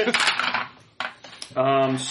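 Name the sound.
dice being rolled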